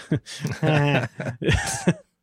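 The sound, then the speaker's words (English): A person sneezes, a quick run of loud, explosive bursts, one with a drawn-out voiced intake before it, then a final sharp puff, with no talking in between. “Bless you.”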